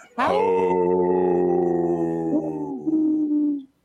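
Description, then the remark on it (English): A person imitates the low howl of an older wolf: one long, steady, loud note with rich harmonics that wavers and dips slightly near the end before cutting off, with no other sound. “You see, I did a older wolf with a lower voice there.”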